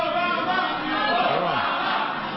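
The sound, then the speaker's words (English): Reporters in a room chant Obama's name in unison, loud and sustained, the overlapping shouts blending into a steady roar with no single speaker standing out. “That's the reporters in the room chanting Obama's name.”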